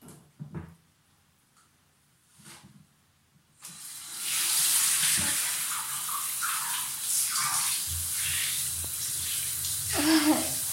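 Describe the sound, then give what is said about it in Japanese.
A few quiet knocks and shuffles, then a shower bursts on and runs steadily, a dense hiss of spraying water that splashes and shifts as slippery lotion is rinsed off the body beneath it. “ちょっと気持ちよすぎてやばい、やばいけどちょっと滑るから危ないので洗い流します。”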